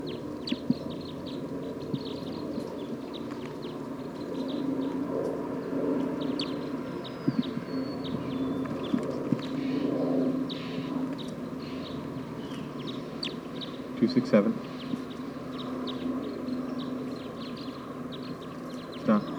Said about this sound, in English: So recording a wild bird just arrived on the scene. I don't know what call type it is.